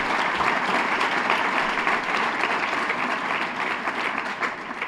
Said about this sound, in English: So thank you. Let's give it another round of applause for the Supervisor.